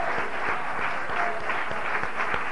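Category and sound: crowd, audience clapping and cheering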